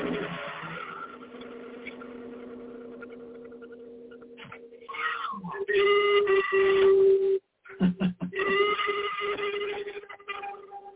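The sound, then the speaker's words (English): A gong rubbed with a friction mallet in a sound therapy session gives off sustained, whale-like moaning and squealing tones that swell louder midway, break off briefly, then resume with wavering, layered pitches. “So this is how I get some of my whale sounds, the friction mallet.”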